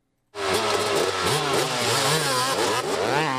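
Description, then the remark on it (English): A dirt bike engine roars to life after a brief silence and keeps revving hard, its buzzing pitch rising and falling in quick waves without any voices, at the Iditarock, a 34-mile off-road challenge at Olds River. “Olds River over the weekend for this year's Iditarock, a 34-mile off-road challenge open to teams of runners, dirt bikers, four-wheelers, and side-by-siders.”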